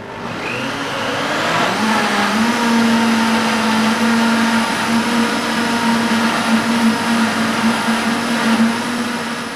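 A blender motor whirs up and settles into a steady, loud churning whine, pureeing strawberries and fresh mint in an industrial kitchen space, with a slightly wavering pitch throughout, with no one speaking.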